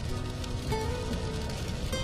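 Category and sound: nature, rain falling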